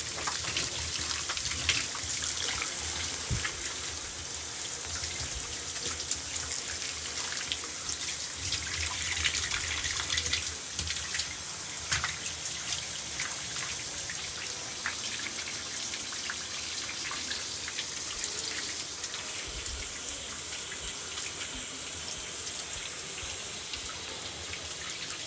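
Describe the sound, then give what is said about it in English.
Warm water runs steadily from a tap for a bath for the whole stretch, a constant rushing hiss with faint splashing as it fills a basin or tub. No one speaks. “At first, I don't bathe in the hot water, but I bathe in like warm water.”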